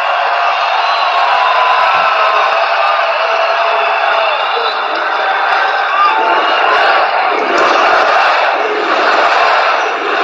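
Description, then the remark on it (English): A huge crowd cheers and roars continuously at a rally, a dense, loud wall of voices with shouts and whoops rising out of it, steady for the full length. “Huge, huge crowd.”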